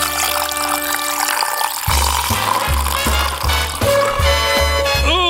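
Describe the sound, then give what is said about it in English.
Beer pours steadily into a glass, a gurgling stream whose pitch climbs as the glass fills, with a thumping bass-heavy music beat running underneath for most of it. “That's a good sounding pour.”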